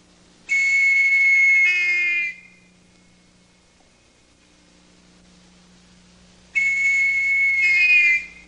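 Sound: whistle blowing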